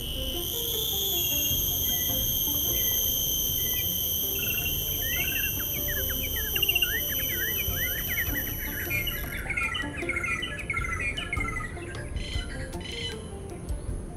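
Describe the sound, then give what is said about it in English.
A steady, shrill cicada drone fills the air while many birds chatter and chirp busily in the background, a dense outdoor chorus near the forest edge and tree line in Singapore, with no voices. “Then, the bird and cicada chatter went silent.”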